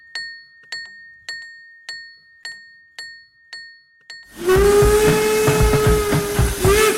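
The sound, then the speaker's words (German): A rope-haulage warning signal at the Hilbersdorf rail yard in Chemnitz, warning workers that the rope car cannot stop suddenly: about eight evenly spaced metallic bell strikes ring out, then a loud, sustained steam whistle blast with heavy hissing takes over, with no voices. “Er warnt die Arbeiter, dass sie jetzt besonders aufpassen müssen, weil der Seilwagen ja nicht plötzlich anhalten kann.”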